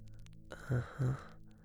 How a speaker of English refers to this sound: I must stretch out for you. Yes, I will. Like this.